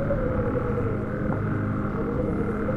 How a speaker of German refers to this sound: Wie laut sie doch sind. Auch andere Waldbewohner hat das laute Gequake aus ihrem Versteck gelockt.